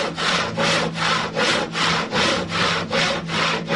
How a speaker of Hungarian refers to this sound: Tehát fölhúzták, és utána, amikor megszáradt, napok múlva fűrészelték ki az ajtónak és az ablaknak a helyét.